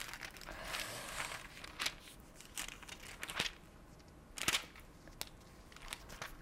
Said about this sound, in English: Sorry, my pages are sticking together. I'll get there.